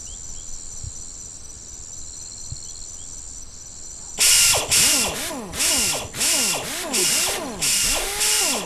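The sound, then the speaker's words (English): A steady, high cricket-like chirring runs alone for a few seconds, then a pneumatic air tool at a tire shop cuts in with about six loud, rattling bursts, each with a whining pitch that rises and falls. “That's it. The kind of pneumatic.”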